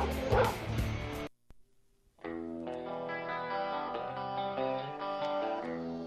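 A loud, heavily processed dog bark sound effect bursts out on Sports Radio 730 and 103.9 The Ump, followed by a brief silence and then a distorted, effects-laden electric guitar riff.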